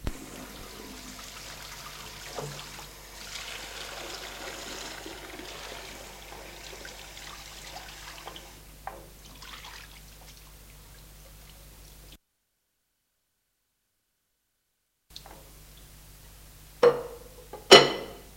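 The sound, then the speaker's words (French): Water runs steadily from a tap for about twelve seconds while a woman washes dishes in a kitchen, then stops; after a brief silence, a few sharp clinks of dishes ring out. No one speaks. “Elle continue de laver la vaisselle.”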